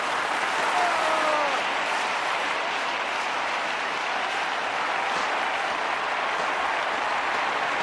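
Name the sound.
audience cheering and applause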